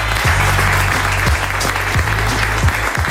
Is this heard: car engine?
no